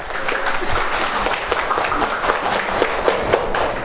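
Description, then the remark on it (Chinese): Steady audience applause welcoming a teacher to speak, a dense, even wash of many hands clapping at once with small sharp peaks scattered through it and no talking over it. “我们鼓掌欢迎。”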